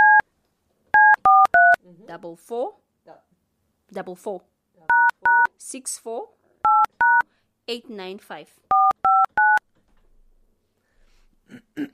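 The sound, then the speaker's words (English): Telephone keypad dialing tones: crisp, steady two-pitch beeps in quick clusters of two to four, alternating with a person speaking between the bursts, then quiet at the end. “Okay, what's her number? 081.”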